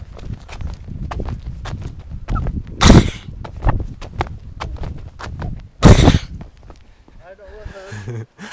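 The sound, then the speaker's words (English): Someone mimics a trotting horse: steady, rapid clip-clop clicks, two loud breathy snorts, then a wavering vocal whinny at the end. “That's my horse noise. So authentic, isn't it?”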